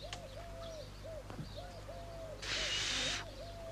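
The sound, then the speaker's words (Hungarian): Someone tries to whistle but only manages a series of short, low, wavering hoot-like tones, then a burst of airy hiss as breath rushes out without a clear note. “A fütyülni se tudsz.”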